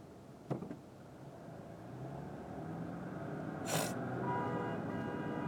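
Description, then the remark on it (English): A long, steady truck horn blares at a car that suddenly tried to pull over across three lanes, over rumbling road traffic, starting a couple of seconds in and holding to the end, with a sharp thump early on and a brief hiss. “And the truck is honking at the car, which, you know, solves nothing and whatever.”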